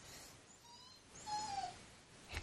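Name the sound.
dog whining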